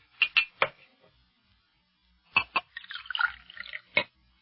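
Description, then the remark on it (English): Water poured into a glass for someone who asked for a drink: a few sharp clinks and drips, then a brief splashing trickle of liquid and a final clink, with no one talking. “Hey, look, may I have a glass of water if I've got to go into such a lengthy discussion? I'll get you one.”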